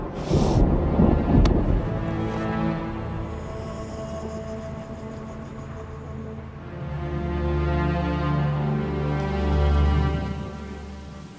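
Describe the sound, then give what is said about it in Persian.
Steady rain pours down with deep rolling thunder rumbling underneath, swelling loud toward the end, and a sharp crack early on; no one speaks. “همینو کم داشتیم، بارون هم گرفت.”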